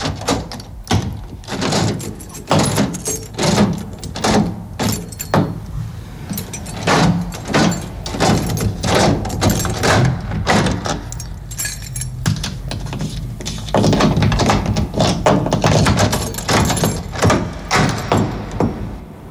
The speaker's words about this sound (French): Mais combien vous avez fait de tour? Pour fermer la porte complètement, il faut faire avant, 3, et puis 6.